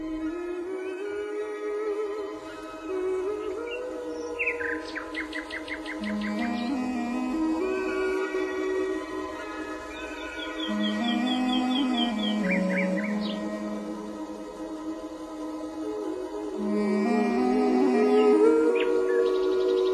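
A nightingale's song of short bright trills and chirps bursts out several times over a sustained, gentle musical backdrop at steady moderate volume, with no talking, in a radio dramatization of Andersen's The Nightingale.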